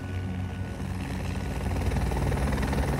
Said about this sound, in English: this chopper and that sound brings with it the promise of survival.